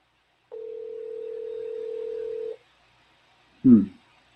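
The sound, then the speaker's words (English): A single steady ringback tone on a phone line lasts about two seconds, then stops with no answer. After a pause comes a brief, low, muffled burst. “not answering his phone”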